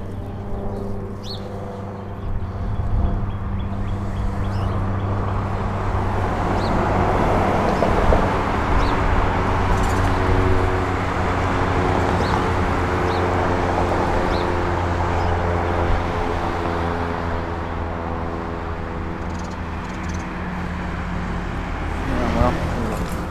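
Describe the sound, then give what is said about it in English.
A loud, steady engine drone with humming low tones fills the scene as an airplane passes overhead, over a constant wash of street traffic with faint bird chirps. “Right, we got an airplane coming over.”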